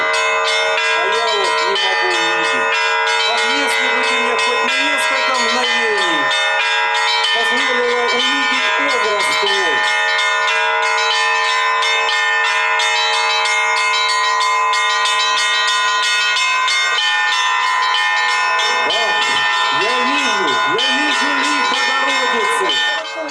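Church bells ring for Easter at the church of the Great Martyr Barbara in Stanitsa Grushevskaya, in a loud, continuous peal, many bright overlapping tones clanging together without pause, while voices can be heard faintly beneath the ringing.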